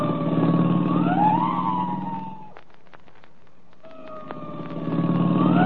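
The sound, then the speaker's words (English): A police car siren, turned up all the way, wails loudly with rising and falling tones, cuts out briefly to a few clicks and rattles, then starts up again and swells back to full volume. “I'll give the siren all the way. You ought to be able to hear that.”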